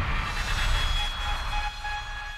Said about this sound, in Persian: لیلو عصای فلزی را از قفسه سلاح ها برداشت و آن را روی زمین کشید.